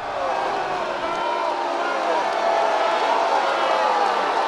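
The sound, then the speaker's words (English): A large crowd of Bernie Sanders supporters boos steadily for several seconds in response to his message that they should vote for Hillary Clinton to defeat Donald Trump: a sustained, dense mass of low, droning voices with no pauses and an even loudness throughout. “So, obviously not an enthusiastic message, enthusiastic reception, but based on what you're hearing there, are the people who were doing that booing representative of Sanders supporters?”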